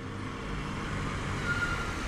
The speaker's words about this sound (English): And then I heard a truck come up behind me. And this guy pulls up. He's got this, about a 60 Ford pickup, blue and white.